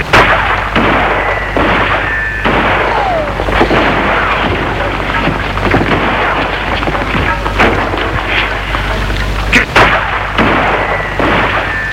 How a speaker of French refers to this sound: Des coups de feu.